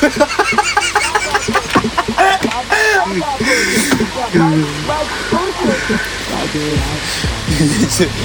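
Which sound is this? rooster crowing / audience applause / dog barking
rooster crowing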